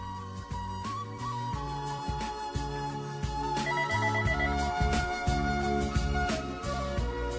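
A phone's musical ringtone plays continuously for an incoming call to a radio call-in show, a bright melody over a steady bass rhythm. It is fairly loud, with no one speaking.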